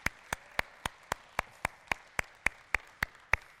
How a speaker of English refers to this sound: Can we give our guests a hand today? First-time guests, let's clap for them.